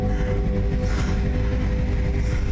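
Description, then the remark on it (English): Diesel locomotive 56081 rumbles steadily along the rails just outside Stoke as it finishes its life on the railway, loud, its deep engine drone carrying a constant hum under rhythmic mechanical clatter, with no voices. “And here, just outside of Stoke, is where 56081 finishes its life on the railway.”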